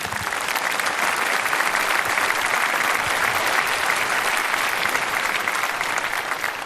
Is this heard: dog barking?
no